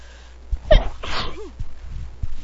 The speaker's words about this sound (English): It really feels like I need to. Oh my gosh. Okay, I need to sneeze.